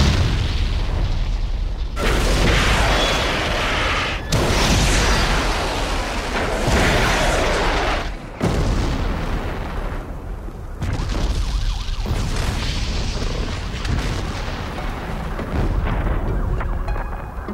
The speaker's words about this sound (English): That was a major building in the presidential palace. Again, another. Just disintegrating. Bigger than the Gulf War, Tom. The first Gulf War. Much bigger, these explosions.